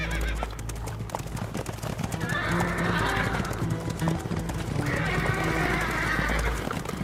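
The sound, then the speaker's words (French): Horses being ridden through arid lands whinny twice in long, shrill, wavering calls over a steady, rapid clip-clop of hooves, with a low rumble of movement throughout. “Chevauchant à travers des terres arides.”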